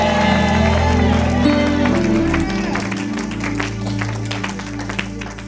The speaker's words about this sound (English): Clapping was never done in isolation. It was always combined with shouts.